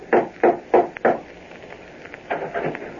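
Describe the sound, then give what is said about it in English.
Four firm, evenly spaced knocks on the wooden door of a house ring out in the evening, followed after a short pause by a quicker, softer cluster of raps. “One evening, he decided to call on Bob, went to his house, and rapped on the door.”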